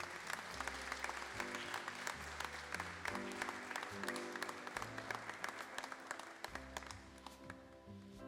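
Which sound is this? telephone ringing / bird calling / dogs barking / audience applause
audience applause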